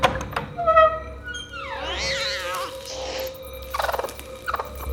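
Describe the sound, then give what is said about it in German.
Chickens cluck and squawk in a henhouse, a run of warbling, rising calls followed by several short bursts of clucking, with no voices. “müssen aufpassen, dass wir damit nicht die Hühner erschrecken, wenn wir im Stall sind.”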